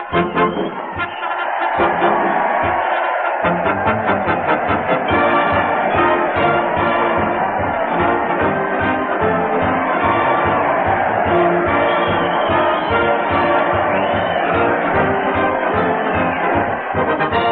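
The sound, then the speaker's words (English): A large crowd gathered in front of the old town hall makes a loud, steady roar of voices and cheering that fills the whole stretch without a break, with what sounds like band music mixed in. “here we are in front of the old town hall, and there's Fred welcoming the crowd”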